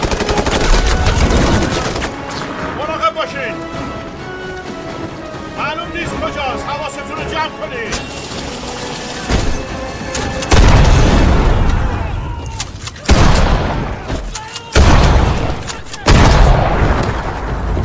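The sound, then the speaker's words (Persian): Loud, sharp gunshots ring out in scattered bursts over the second half, with voices and a tense musical score running underneath. “از اونجا شلیک میکنه، دنبالم بیای.”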